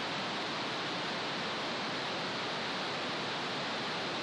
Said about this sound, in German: Ein rosa Rauschen. Du erinnerst dich? Pink Noise, eingefangen mit einem Schmetterlingsnetz.